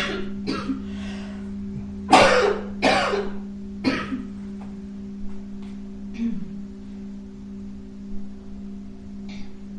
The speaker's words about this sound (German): Und Husten ist, huste möglichst laut, ganz kraftvoll.